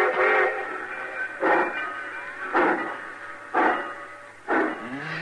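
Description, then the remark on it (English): A train pulls out right on time with a series of loud, repeated whistle blasts, about five evenly spaced shrill bursts over a steady rumbling chug, with no talking. “Cussing trains pulling out right on time at once.”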